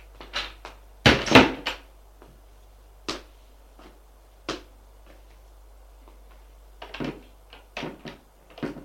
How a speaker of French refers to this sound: La porte s'ouvre, c'est Frédéric.